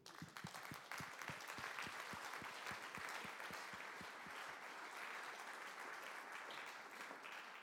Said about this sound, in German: Bitte kommen Sie zu mir nach vorne und Sie kriegen einen Applaus dafür.